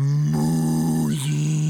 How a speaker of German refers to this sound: Jetzt die Kuh. Die gefräßige Kuh kann es nicht unterlassen, auch etwas dazu zu sagen, als sie plötzlich Musik hörte.